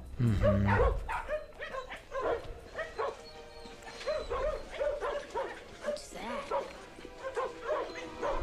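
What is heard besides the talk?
dogs barking and whimpering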